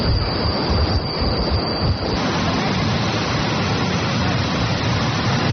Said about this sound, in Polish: Mijamy stare domy paryskich przedmieść, a wszystko to w stuku kół, jakie jego współczesny metr już nie zna, i przy akompaniamencie posapywania lokomotywy.